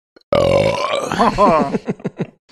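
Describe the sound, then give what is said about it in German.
A loud, long, rumbling burp from someone who has just finished drinking their milk, starting abruptly with a sustained low buzzing tone, then breaking into a series of gurgling, wavering pulses before trailing off. “Da kann ich sagen, das war, war ich noch nicht, weil ich mein Bier noch nicht aufhabe, sondern jemand, der hier gerade seine Milch ausgetrunken hat,”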